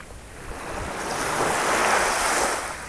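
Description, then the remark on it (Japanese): Ocean waves wash onto the shore in a broad, steady hiss that swells gradually toward the middle and eases off slightly at the end, with no voices present. “それではこれから波の音色を聞きながらリラックスタイムを一緒に過ごしていきます。”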